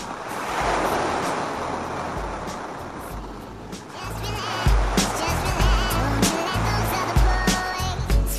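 A steady, hissing wash of sea surf rolls in and churns against the shore, full-sounding. Partway through, faint voices rise over the continuing rush of water.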